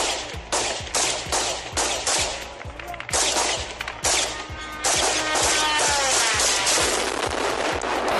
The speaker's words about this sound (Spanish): Apunta a que Rusia habría comprado este modelo de 200 kilos de peso y una velocidad de hasta 185 kilómetros por hora que la policía ucraniana no ha dudado hoy en intentar abatir a disparos.